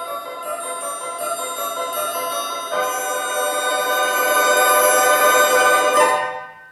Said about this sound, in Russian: Вдруг раздался звон серебряный.